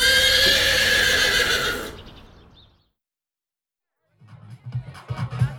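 A large black horse in a back garden lets out a loud, drawn-out neigh lasting about two seconds, then trails off into a brief silence before a voice begins speaking.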